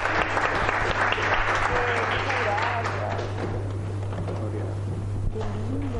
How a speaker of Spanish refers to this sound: Oye, un aplauso para Chasqui. Sí, un aplauso.